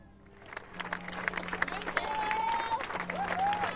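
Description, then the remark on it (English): A crowd applauds the police, fire crews and people who saved lives at an outdoor vigil, steady clapping building in volume over a low murmur of voices, with a couple of rising whistles cutting through near the end. “The applause was with the police, the fire crews, the people whose fast action had saved lives.”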